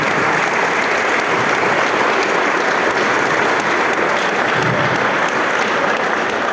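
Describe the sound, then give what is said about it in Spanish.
Sustained applause from an audience for the retirees who are attending fills the whole stretch, a dense, steady wash of many hands clapping at an even, loud level with no voices standing out. “Por eso también quiero pedir un fuerte aplauso para todos los jubilados que nos están acompañando, que siempre están y nos agrada que estén.”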